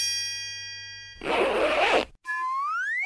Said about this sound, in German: Lösung, das war ein Geräusch, wenn man den Reißverschluss zumacht.